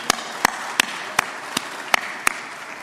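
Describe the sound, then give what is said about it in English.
Applause from an audience at Unity giving itself a round of applause, in a slow, steady rhythm: seven or so sharp, crisp claps spaced evenly about a third of a second apart, with no voices over them. “Let's give ourselves a round of applause if you're with us here or with us online.”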